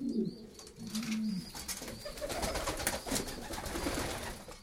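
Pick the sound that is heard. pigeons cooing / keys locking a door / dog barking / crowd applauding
pigeons cooing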